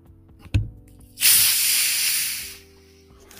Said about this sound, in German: Die Zuschauer müssen diesen perfekten Psst hören. Nein, ich hab das gerade geschüttelt. Ich mach's vorsichtig auf.